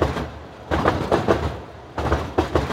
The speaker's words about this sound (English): Sometimes I find myself nodding along to like the rhythmic hum of the Uptown C train. And I'm like, is this music?